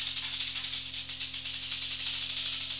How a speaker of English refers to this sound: The rattlesnake is shaking its rattle.